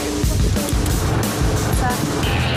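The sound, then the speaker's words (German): A Mercedes AMG GT R sports car engine rumbles loudly and steadily as the car drives and pulls forward strongly, its deep drone shifting slightly in pitch beneath constant road and wind noise. “Das Auto hier ist ein Mercedes AMG GTR. Das schiebt auch ordentlich vorwärts, ist aber moderner, da kann man mit der Fitbit schalten, wie ein Formel-1-Auto.”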